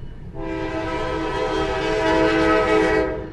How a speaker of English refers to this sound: Well, I was completely wrong. The train in this case is in Edgerton, Ohio. It's simply a freight train passing through. The factory in this case is right by the tracks.